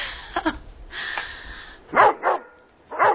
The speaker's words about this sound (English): Bongo! I don't know why he barks at you.